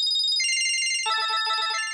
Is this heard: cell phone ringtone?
yes